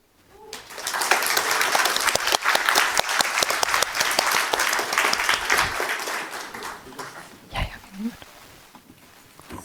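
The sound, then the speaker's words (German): An audience bursts into sustained applause for a group that has just finished its presentation, dense clapping that swells quickly and holds steady for several seconds before thinning out, with a few voices and scattered claps near the end. “Noch einen großen Applaus und die nächste Gruppe kann sich bereit machen.”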